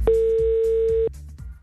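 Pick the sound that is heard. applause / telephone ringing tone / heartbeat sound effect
telephone ringing tone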